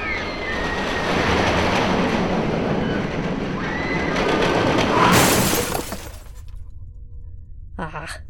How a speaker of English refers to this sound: Shall we ride the roller coaster? I'd be game for that.